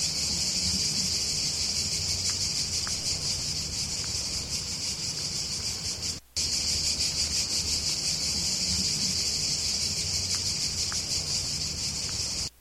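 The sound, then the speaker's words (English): A single cicada in Frascati, Italy buzzes in a loud, steady, high-pitched drone that runs almost unbroken, cutting out briefly midway and again at the very end. No one speaks. “In Frascati, Italy, there's one cicada.”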